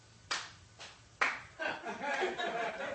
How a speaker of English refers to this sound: That was like a Holocaust clap. That was weird.